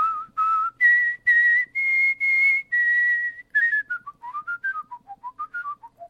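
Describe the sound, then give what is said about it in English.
A single person, a world champion whistler, whistles the opening of Twinkle Twinkle Little Star, clear, with steady held notes climbing to a long high note, then a quicker descending run. “Plus, he also performed his rendition of Twinkle, Twinkle, Little Star, which he actually does on the show for me as well.”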